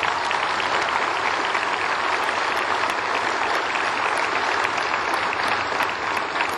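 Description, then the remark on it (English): Thunderous applause from a large crowd for the class of 2023 at a ceremony, a dense, steady roar of clapping that stays loud and even for several seconds, with no voices standing out. “Thank you for that thunderous applause, both here from you and from above all night.”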